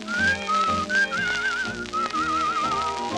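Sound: cheerful human whistling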